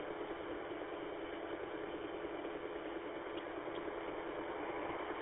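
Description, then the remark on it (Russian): A steady, unbroken whir of the cooling fans in a running desktop computer's system unit nearby, a constant hum with a hissy, airy texture that holds the same level throughout, with no voices or other sounds. “Может быть, чувствительность высокая, у меня тут системный блок рядом, работает компьютер, чуть-чуть гудит. Ну, вентиляторы, ну, сами знаете, какой звучок там чуть-чуть идет.”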